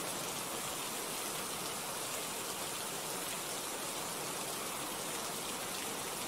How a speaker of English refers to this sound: Yes, well, I am well aware that it's raining.